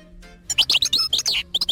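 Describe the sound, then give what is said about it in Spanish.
A bird chirps in quick, bright bursts, a rapid series of high, sweeping tweets heard clear with no one talking over it. “¿Y ves el pájaro? Lo estoy escuchando y lo estoy viendo.”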